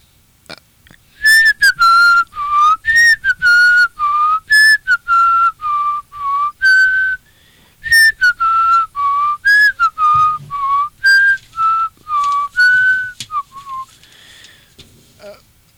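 A person whistles a slow, gentle Christmas song melody up close, clear sustained notes in a steady melodic phrase with brief breaths between, alone without talking.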